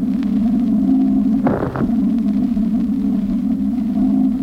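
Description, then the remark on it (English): A single short radar pulse aimed at the moon bursts out over a steady, low electronic hum, with no echo from the moon standing out clearly. Nobody speaks, and the droning tone continues throughout. “There, ladies and gentlemen, was the first broadcast of an echo from the moon.”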